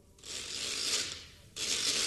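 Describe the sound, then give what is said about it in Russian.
A homemade wooden rattle is spun in two loud bursts, a long whirring clatter of rapid, bright clicks, a brief break, then a second spin. No one speaks. “То есть принц, но для них-то он ведь был свинопасом, даром времени не терял и смастерил трещотку.”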